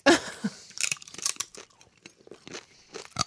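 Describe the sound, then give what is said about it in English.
Loud crunching of crispy sweet potato chips being bitten and chewed, a string of sharp, brittle crackles in irregular bursts with brief pauses between them. “Oh my God, this is extremely crunchy. Can you hear it?”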